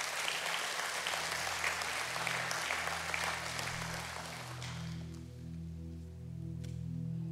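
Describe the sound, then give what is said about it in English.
A church audience applauds during a sermon in a dense, steady wash of clapping that fades after about five seconds, while sustained low musical chords play underneath and carry on alone. “Yeah, you can clap, that's all right.”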